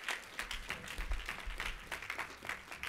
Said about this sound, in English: Give God a hand and clap of praise for this woman of God.